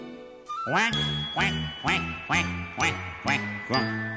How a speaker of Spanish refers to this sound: Do mi re do re mi qua qua qua. Allá en la laguna cantaban los patos.